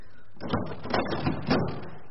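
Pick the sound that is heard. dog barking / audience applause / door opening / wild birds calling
door opening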